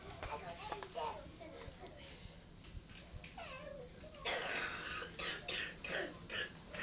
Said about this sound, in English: Well, you've got a cough